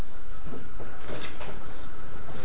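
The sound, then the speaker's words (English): Doors being pulled shut, with several dull knocks and bumps spread across a couple of seconds over a steady, noisy hum, with no one speaking. “get the doors.”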